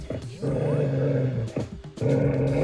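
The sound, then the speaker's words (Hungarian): Two angry, hungry hound dogs growl and snarl in two long, rumbling bursts, loud, with a brief pause between them and no talking. “Volt neki két mérges kopókutyája. Éppen jó éhesek voltak.”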